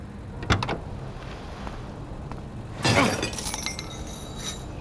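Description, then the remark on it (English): A lock on the gate of an airport landing strip being smashed open: two sharp, forceful blows a couple of seconds apart, the second followed by a brief metallic clatter, over a steady low background rumble. “Mateo smashed a lock on the landing strip's gate, and we drove right on the runway.”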